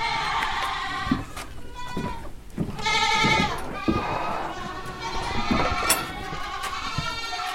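animal, young goats bleating

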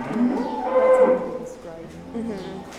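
animal, dairy cows mooing

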